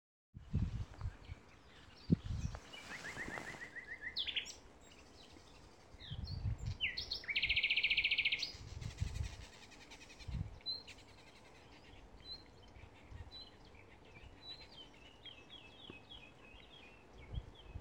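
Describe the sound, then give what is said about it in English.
Birds chirp and twitter in a forest, with bright high calls and trills scattered throughout, some loud, others softer, over a soft rustling of leaves in a gentle breeze with occasional low thumps. “with birds chirping and leaves rustling in the gentle breeze, almost as if they were trying to speak.”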